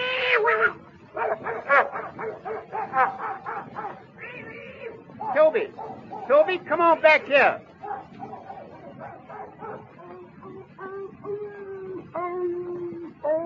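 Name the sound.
dog barking and whimpering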